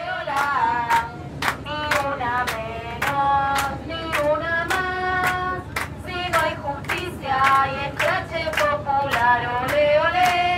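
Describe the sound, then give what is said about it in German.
Passengers in a train compartment in Argentina clap in a steady, regular rhythm while many voices chant and sing along together the slogan "Ni una menos", a chant started by women, the sharp claps cutting through the loud, sustained group singing throughout. “Das ganze Zugabteil klatscht und singt mit.”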